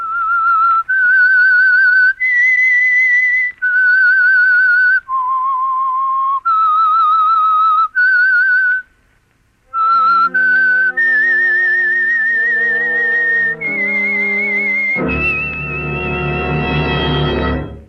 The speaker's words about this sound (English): The Household Finance Corporation program, The Whistler. That whistle is your invitation to listen to the Household Finance program, The Whistler.